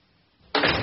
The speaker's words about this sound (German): Sie geht an die Tür. Frage: Was tut sie da? Sie macht die Tür zu.